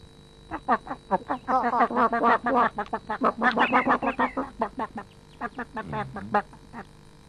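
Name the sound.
chickens clucking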